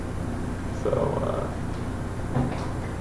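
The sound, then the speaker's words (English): A cat purrs in a steady, low rumble for a few seconds while being played with, with a couple of brief higher vocal chirps breaking through over it. “They're playing with Cat now.”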